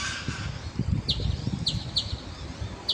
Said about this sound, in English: Noisy miners. Just flown away.